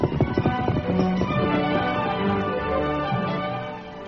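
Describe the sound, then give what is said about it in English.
Horses, one of them the horse Victor, riding off along the trail that led to the Stacy Mine, their hooves clopping in a quick, uneven rhythm that stays loud, then eases slightly toward the end, with no voices. “After the Lone Ranger and Tonto left camp, Dan mounted his horse Victor and rode the trail that led to the Stacy Mine.”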